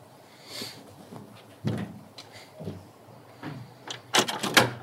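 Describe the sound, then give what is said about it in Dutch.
The door of a family's home being opened after the doorbell is rung: a few separate clunks and rattles of a latch and handle, the last ones louder and sharper, against a quiet background. “Voor het eerst aanbellen bij de familie van Eefke.”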